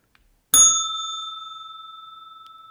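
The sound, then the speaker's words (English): An old porch bell is struck once and rings out clearly, its bright metallic tone lingering with a gentle wavering shimmer as it slowly fades. No one speaks. “Before we go on, I have to say, does anyone notice the crispness of the bell? I found an old bell I used to use at the porch when we'd have like a diner set up for the kids.”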